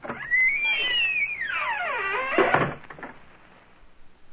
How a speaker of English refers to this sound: And the Lord God himself did shut the big door.